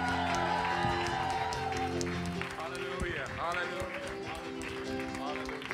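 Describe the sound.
An audience applauds steadily for several seconds as an elder is welcomed to the platform, a dense wash of clapping and crowd noise mixed with sustained musical tones, while voices carry over the top.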